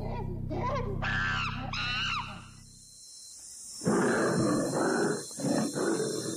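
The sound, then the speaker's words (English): A tiger snarls and roars in several loud, rough bursts, after a few high, wailing cries over a steady low hum. “Strange to think how a few hundred years ago the tiger had come so close to extinction, but that all changed when the prison service decided to put them to proper commercial use and trained them as security tigers.”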